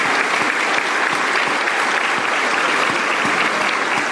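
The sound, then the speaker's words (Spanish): A crowd applauds steadily for leaders who defend the environment, a dense wash of many hands clapping at an even, sustained loudness for several seconds with no voices standing out. “Fuerte aplauso para todos estos líderes que son defensores del medio ambiente.”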